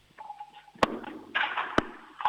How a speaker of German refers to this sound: Sie ist im Stiegenhaus wahrscheinlich? Das ist eine richtig coole Türklingel